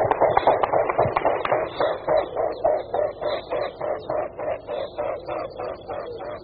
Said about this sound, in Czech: Představuje se nám labuť velká. Možná častěji než hlas labutí zaslechneme zvuky, které vydávají svými křídly.